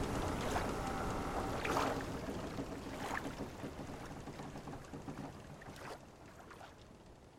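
Small waves lap gently against the hull of a boat, with soft irregular splashes over a steady watery wash. Faint wind noise sits underneath, and no one speaks.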